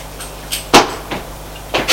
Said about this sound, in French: Elle ferme à clé sa porte,